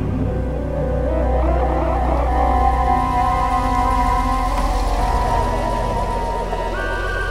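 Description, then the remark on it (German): A police patrol car approaches with a loud, steady engine rumble, its low motor drone filling the scene along with a few sustained tonal whines as it draws near. “Nach etwa 10 Minuten näherte sich ein Streifenwagen.”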